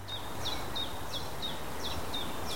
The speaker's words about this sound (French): À moins d'une heure de Paris, la forêt de Fontainebleau offre le calme des grands arbres et le chant des oiseaux.